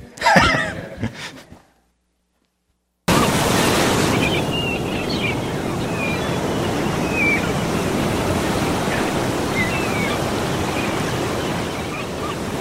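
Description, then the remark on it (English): Steady ocean surf washes broadly across the scene while seagulls call now and then, thin cries rising over the waves, after a brief voice and a moment of silence at the start. Morning on the beach at Brighton, by the remnants of an old pier. “The laughter of seagulls echoes over a picture postcard morning as sailboats play in the silver sea.”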